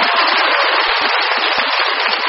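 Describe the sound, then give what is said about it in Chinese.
A crowd applauds steadily, a dense wash of many hands clapping at once, loud and sustained for the whole moment with no voices over it. “鼓掌的人都是有希望的。”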